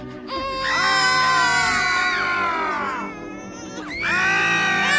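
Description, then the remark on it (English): Several overlapping voices scream together in long, sustained, high-pitched wails. The screams swell loudly, pause briefly, then rise again near the end. No speech is heard. “There's a lot of different screaming going on.”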